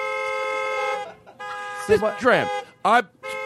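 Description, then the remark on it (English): The horn of a 1986 Buick, recently changed, honks with a long, steady, buzzy blare, pauses briefly, then sounds again before breaking into warbling, swooping tones that rise and fall like a novelty musical horn. “And she drives an 86 Buick, but she just had the horn changed.”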